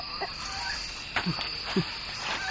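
Chickens cluck in short, scattered bursts over a steady hiss and a thin, high insect-like whine, with a couple of brief, low throaty calls standing out in the middle.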